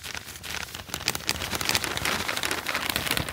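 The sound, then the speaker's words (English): A dense, continuous rustling roar of about 4 tons of paper (merit pay materials) pouring out of wheelbarrows into an office, crackly and hissing like heavy rain, building slightly in loudness over a few seconds with no voices. “That's got to be 4 tons of paper you just dumped in my office!”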